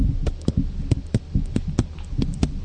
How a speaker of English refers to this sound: I'm really loud. You can hear my heartbeat in this microphone tonight.